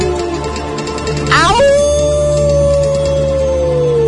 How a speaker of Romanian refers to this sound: Auzi, Lupi?